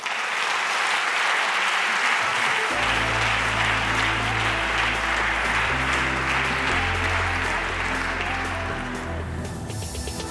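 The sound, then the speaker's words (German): Sustained audience applause for the discussion panel fills the whole stretch, a dense steady clapping from many hands; after a few seconds music with a deep bass line comes in beneath it. “Und ansonsten vielen, vielen Dank an die Runde und einen riesen Applaus für euch.”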